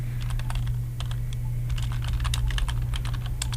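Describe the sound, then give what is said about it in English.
Rapid, irregular clicking of fingers typing on a computer keyboard while searching for music, steady for several seconds, over a constant low electrical hum. “And that's me typing, looking for music.”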